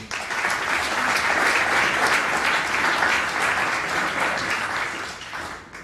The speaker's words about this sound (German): Und deswegen freue ich mich ganz, ganz herzlich, ihn hier in Frankenberg begrüßen zu können und auch sicherlich einen mega spannenden Vortrag mit einem riesen Applaus heißen wir ihn hier willkommen,